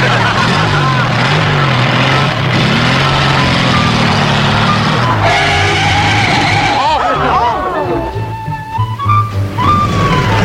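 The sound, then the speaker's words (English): A sports car is started with a key and starter, its engine roaring loudly, pitch climbing and shifting as it revs and pulls away, with indistinct voices murmuring underneath. “Here's your key. Ignition. Starter? Now, first gear's up here, second down here, third, and fourth.”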